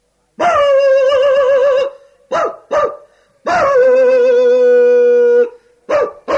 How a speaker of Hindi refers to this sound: कुत्ते भौंक रहे हैं, बड़ी अम्मा चली आ रही हैं। इस मोहल्ले के सारे कुत्ते बड़ी अम्मा पे दिल खोल के भौंकते हैं।